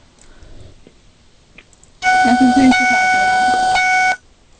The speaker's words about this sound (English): That's my car door. Dang, sorry. I was going to be really excited that was it. I hear a ding, ding.